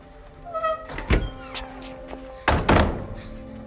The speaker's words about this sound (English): Close the door, please.